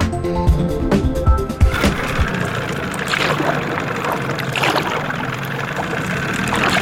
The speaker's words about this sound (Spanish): Imagine que está en medio de la selva en una lancha sobre el río Guaviare.